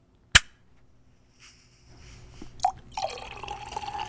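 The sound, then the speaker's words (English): A bottle of 2016 Blanc de Noir sparkling wine opens with one sharp, loud pop, followed by a quiet pause, then a steady hiss of fizzing bubbles that swells and keeps going, with a few splashy pours mixed in. “Can you hear that? Nice fizz.”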